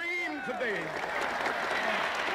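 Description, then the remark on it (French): A crowd in the United States applauds a pastor's "I have a dream" civil rights speech with dense, steady clapping that fills the whole clip, while raised voices and cheers rise and fall over it in the first second. “Et au fil de son discours, il martèle 8 fois sa fameuse phrase « J'ai un rêve » sous les applaudissements, vous les avez entendus, de la foule.”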